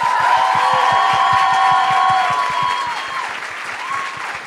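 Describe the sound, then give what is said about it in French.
Steady applause from an audience welcoming a guest, dense rapid clapping with a few cheers and whoops on top, staying loud throughout and easing slightly toward the end. “J'ai l'impression d'applaudir comme Dumbledore.”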